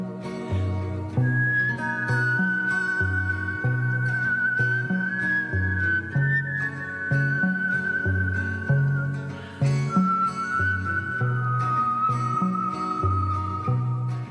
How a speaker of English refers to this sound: who whistles her own tunes. They're gorgeous and cinematic and lush and a little eerie. They're both weirdly comforting and unsettling at the same time.